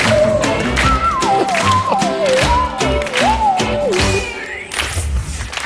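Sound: audience applause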